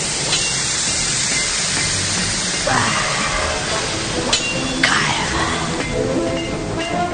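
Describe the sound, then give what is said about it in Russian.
Hot metal plunged into cold water gives off a loud, steady sizzling hiss of steam that fills the whole clip, with a few brief rising whines and crackles breaking through partway. “Вот, теперь в холодную воду.”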